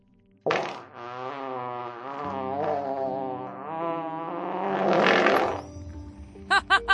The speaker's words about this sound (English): You should see the look on your face. Guess you've never borne the brunt of a tiefling's fart before. Am I right? Stick close to me and you'll get used to it.